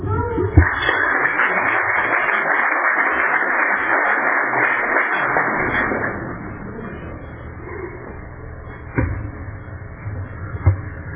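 An audience applauds in a dense, steady wash of clapping for about six seconds, then it thins out to a few scattered claps and low murmuring.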